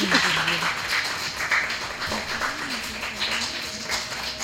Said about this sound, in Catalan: Doncs ens encanta sentir i comprovar que hi ha tantíssima activitat a la classe de 5A de l'Escola Joan Juncadella, que sou tan esportistes, i per aquí es notava un aplaudiment una mica tímid, però no us talleu, aplaudiu, aplaudiu.